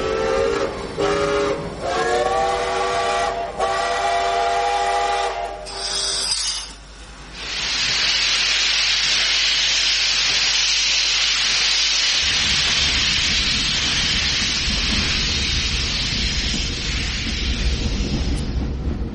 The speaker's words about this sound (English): The soldier politely held the door open and jumped in after her as the guard blew his whistle, waved his flag, and the train began to move.